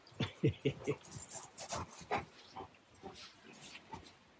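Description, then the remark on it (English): A dog runs through snow by an old cabin, with quick rhythmic bursts of panting and snuffling that crowd together at first, then grow scattered and softer as it moves on. “He loves running through the snow.”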